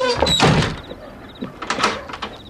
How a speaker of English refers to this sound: Let me lock the door.